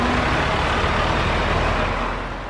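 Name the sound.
trucks driving past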